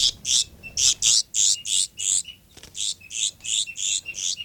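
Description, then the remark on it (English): A bird gives a rapid series of sharp, high alarm calls, about a dozen loud notes in a steady, insistent rhythm with only a brief pause midway, up by 5 9. No one speaks. “Alarm calls up there by 5 9.”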